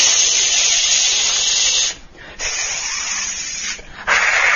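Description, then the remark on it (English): A voice imitates hissing steam to illustrate the Sanskrit sibilant sounds called ushmanaha, 'those which steam', with sustained, bright hissing breaths, briefly broken by two short pauses, fairly loud with no other sounds around it. “Ushmanaha means those which steam. Why steaming?”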